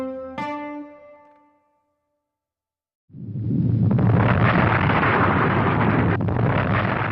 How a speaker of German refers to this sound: Es war ein Sonntagmorgen, 8.32 Uhr. Nach 123 Jahren Ruhe explodiert der Mount St. Helens. Er brach nicht einfach aus, es zerriss ihn.